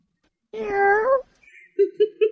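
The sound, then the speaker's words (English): A person imitates a cat, giving one long, drawn-out meow that rises at the end, followed by three short, quick mews. The voice is fairly loud. “imitates a cat”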